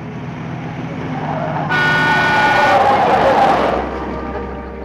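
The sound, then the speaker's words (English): A car pulls out to a steady engine rumble, and a loud, sustained horn blares for about two seconds midway before the motor noise continues alone. “There's a car pulling out ahead.”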